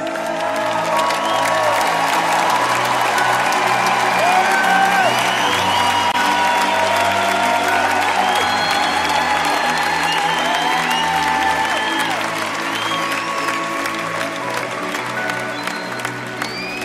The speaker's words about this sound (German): Ihr Lieben, das war jetzt ein guter Applaus.